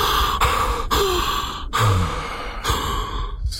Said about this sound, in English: It pierces Ganymede through the heart. Ganymede gasps as he falls to the floor.